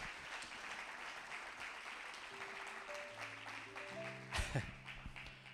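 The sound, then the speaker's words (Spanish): A church audience applauds steadily and loudly throughout, a dense wash of clapping, while soft sustained keyboard notes rise underneath partway through and a sharp thump cuts in near the end. “Fuerte el aplauso.”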